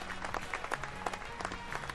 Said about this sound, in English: Give yourself applause. You got some applause, right? Just putting that up. You got 8 out of 10's worth of applause.